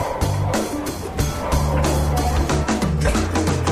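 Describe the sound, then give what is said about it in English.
A vacuum sealer's pump drones steadily for a few seconds, a loud low motor hum layered with a rough, airy hiss as it sucks the air out of a one-pound bag of crawfish before sealing it, its texture flickering slightly throughout. “Okay, so you're putting the crawfish in the, this is what, a vacuum pack? Vacuum machine.”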